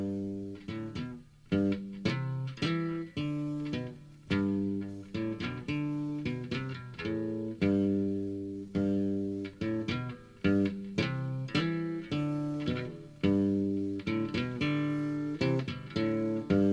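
A classic reggae song plays from a recording, with strummed guitar chords ringing out in a steady, unhurried rhythm at a full, even volume throughout.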